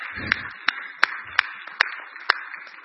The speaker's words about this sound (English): All right, that's applause right there.